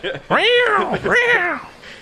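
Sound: voice imitating cats fighting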